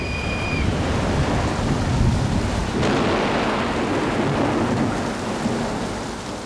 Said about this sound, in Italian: La pioggia inizia a battere fitta su 1.000 ombrelli aperti, sugli impermeabili, sui giubbotti.